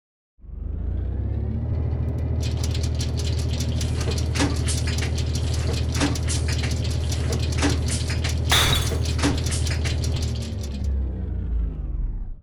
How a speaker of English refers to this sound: So another vacuum tube exploded, and then the random number generator failed. I really should stop buying those discount vacuum tubes. They keep on breaking.